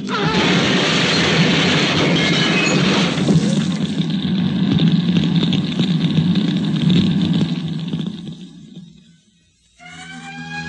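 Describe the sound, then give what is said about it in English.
A car ramming head-on into a gasoline truck: a loud, roaring crash and explosion with heavy rumbling that sustains for several seconds, then dies away to near silence before a new tonal sound begins. “See that gasoline truck ahead? Gasoline? We're going to ram it. Head on.”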